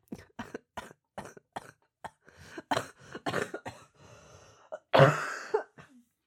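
A run of sharp coughs comes in quick bursts, followed by rougher throat clearing and a final heavy cough near the end, with no talking.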